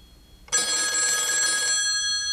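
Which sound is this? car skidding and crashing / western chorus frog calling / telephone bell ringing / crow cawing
telephone bell ringing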